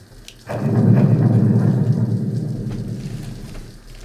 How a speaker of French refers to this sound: Et la pluie, elle, en revanche, reste.